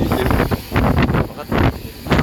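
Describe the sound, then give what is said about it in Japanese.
Gusty wind buffets the microphone in repeated loud rumbling bursts, swelling and dropping roughly every half second, with a broad hiss filling the background, on a cold, rainy day as the wind grows stronger during a walk through town. “風が強くなってきた。”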